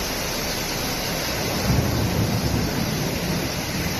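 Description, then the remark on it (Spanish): Heavy rain pours down in a dense, steady hiss during a thunderstorm over a city at night, with a deep low rumble swelling briefly midway through; about 18 litres per square metre fell in just over half an hour, flooding roads on the urban outskirts. No voices are heard. “Se trata de 6 caminos situados en la periferia urbana que suelen inundarse y que anoche quedaron completamente anegados por los 18 litros por metro cuadrado que cayeron en la ciudad en poco más de media hora, una tormenta que nos dejó este sonido.”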